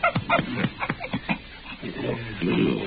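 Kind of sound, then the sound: animal, dog whining and panting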